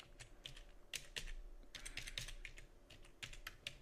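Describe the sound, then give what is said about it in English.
Rapid, uneven clicking of keys on a computer keyboard, with short bursts and brief pauses between strokes; no voices. “Whoops, wrong keyboard.”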